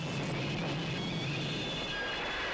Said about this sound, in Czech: Parní mašina zvaná Všudývilka si musela pořádně máknout. Trať okolo kopce zvaného Rovná směrem na Boskovice prudce stoupá. Ale nic si nezadrželo. Během chvilky se vlak přihnal na nádraží a svou cestu zakončil ohlušujícím skřípěním brzd.